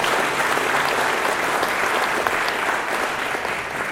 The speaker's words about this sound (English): and I think they deserve a round of applause for all they do.